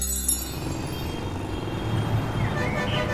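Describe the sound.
Busy city street traffic in Mumbai: a steady, dense roar of car and truck engines with low rumbling and indistinct voices mixed in, continuous and fairly loud throughout.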